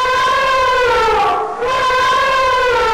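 A loud, sustained brassy elephant trumpet with rich stacked harmonics, bending briefly downward in pitch midway before rising again, heard alone for about three seconds.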